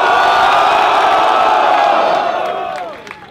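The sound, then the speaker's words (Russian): A loud audience roars, cheering and shouting together for a contestant as the host asks for noise, in a sustained wall of voices, then gradually fades toward the end with a few scattered whoops. “Кто за Алёшу болеет? Дайте шуму ему!”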